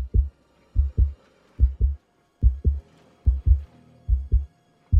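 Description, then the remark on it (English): A steady, deep heartbeat thumps in paired lub-dub beats, about six pairs in five seconds, low and strong with a faint hum underneath and no voices. “All she could hear was the beating of her heart and the sound of the train racing on the tracks.”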